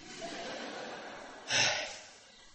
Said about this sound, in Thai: พอพูดเร็วเราก็หายใจไม่ทันเดี๋ยวขอหายใจก่อน